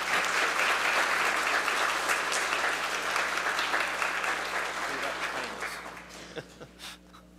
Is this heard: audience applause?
yes